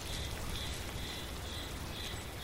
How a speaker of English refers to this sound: It was misty, it was drizzly, I had my rain jacket zipped up and my hiking boots on.